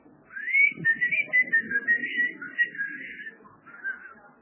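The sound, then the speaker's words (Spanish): Someone whistles through a gap in their teeth, a breathy, high, wavering tone held for about three seconds, then a shorter second whistle after a brief pause. “El chifleo entre dientes es difícil.”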